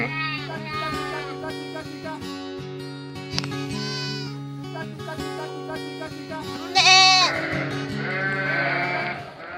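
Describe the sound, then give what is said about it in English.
A flock of sheep bleats loudly and repeatedly in response to people calling to them, many overlapping wavering calls from several animals, swelling into a louder chorus toward the end. “There's four people that's going to call to these sheep. Three that the sheep don't know, and the fourth they do.”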